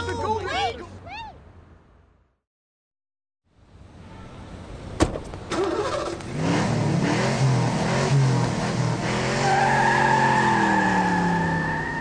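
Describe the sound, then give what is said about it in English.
A car engine revs up loudly with rising, sweeping tones while tires squeal and skid, following a brief silence and a sharp click; voices are heard briefly before the quiet gap. “It's the gold thief. Come on, let's follow the car.”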